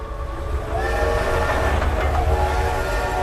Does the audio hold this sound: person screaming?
no